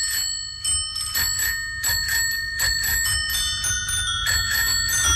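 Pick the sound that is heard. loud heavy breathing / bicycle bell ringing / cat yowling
bicycle bell ringing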